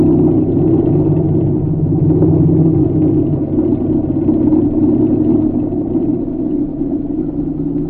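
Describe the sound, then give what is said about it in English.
Sotaro's car engine rumbles low and steady as the car stops in front of a barn at about 9 o'clock at night, holding an even idle-like drone for the whole stretch with no voices. “That night, about 9 o'clock, Sotaro's car stopped in front of the barn.”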